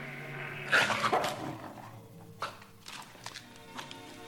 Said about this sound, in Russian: Ведь не зря же пес-то лаял. Да. Думаю, Топа многое известно. Куда больше, чем нам.